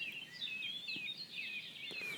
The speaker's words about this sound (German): Da haben wir eine neue Art, kann sein Bruder der Gartengrasmücke. Ich sage jetzt mal 4.40 Uhr. Das ist eine Mönchsgrasmücke.